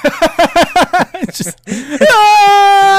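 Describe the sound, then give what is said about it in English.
A voice imitates the scream of Rhinox, the rhino Transformer from Beast Wars, as he transforms: rapid stuttering harmonic yelps, then a sustained high, steady shriek held loudly for about a second. “And then he starts to transform and it's just screaming.”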